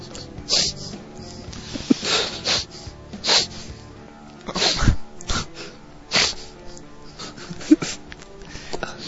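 A run of sharp, breathy sneezes bursts out one after another at uneven intervals, loud, with snorting and gasping sounds between them.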